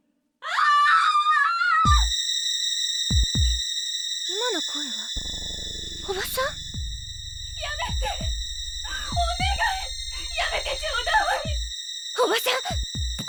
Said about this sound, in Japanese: 配下から聞こえる震えるおばさんの悲鳴。